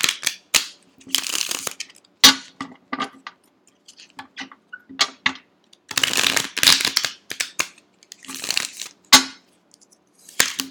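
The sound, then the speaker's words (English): A deck of tarot cards being shuffled, with bursts of crisp, papery riffling and soft slaps coming in irregular clusters, fairly loud, with no talking. “Now I can shuffle.”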